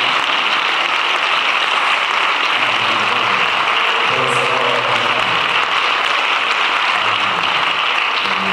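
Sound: audience clapping hands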